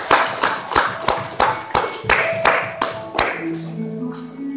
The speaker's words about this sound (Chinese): 我们一起鼓掌，将荣耀、权柄、颂赞归给我们在天上的父。